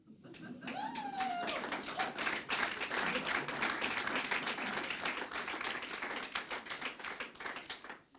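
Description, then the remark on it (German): A concert audience applauds loudly and steadily, dense clapping filling the whole stretch, with a few shouts and whoops rising above it early on. “Es wird geschrien, gejohlt, getobt und das ganze Haus bricht zusammen.”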